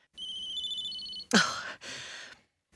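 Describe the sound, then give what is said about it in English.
A mobile phone rings with a steady, high electronic tone for about a second, then cuts off into a sharp breathy gasp and a brief rustling burst. No one speaks. “I'd appreciate it if you could turn off your phone, please.”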